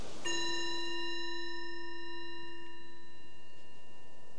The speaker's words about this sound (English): So the bell is the invitation to bring the awareness back more to the surface, and just reflecting on your experience.